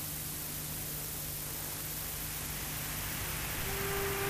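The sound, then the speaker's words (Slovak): A steady, unbroken roar of the sea, like surf blending into a constant wash of noise, holding the same moderate loudness throughout with no voices. “Vy, ktorí ste v obokom spánku, vnímate teraz hukot mora?”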